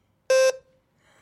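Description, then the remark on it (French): A wheelchair horn gives one short, loud beep, a buzzy mid-pitched tone lasting a fraction of a second that rings off briefly into quiet before a faint sound starts at the end. “Et quand il danse de temps en temps avec ce klaxon, il danse avec le fauteuil, il tourne, il tourne.”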